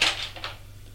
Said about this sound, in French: La porte qui est en face où il est rentré s'ouvre.